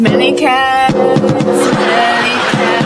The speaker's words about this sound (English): So I thought, till I'm not, I'm just going to play all my songs on this drum. It sounds really cool. Listen.